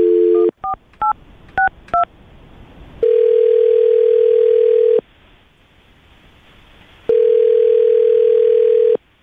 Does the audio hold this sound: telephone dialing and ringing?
yes